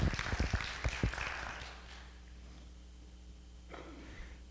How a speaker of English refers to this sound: Thank you, Jesus. Good job. Give him a hand clap.